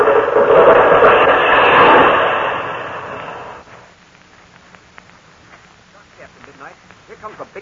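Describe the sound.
A large tree, blown over by the wind, crashes down with its roots crackling in a long, loud rush of cracking and splintering for several seconds, then the noise fades and a few voices follow.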